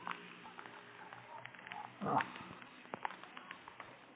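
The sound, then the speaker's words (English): Heavy rain begins pattering down, a steady hiss of drops with scattered sharper taps and a brief louder swell midway, fairly soft overall. “Oh, it started raining.”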